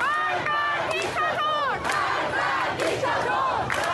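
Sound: protesters shouting slogans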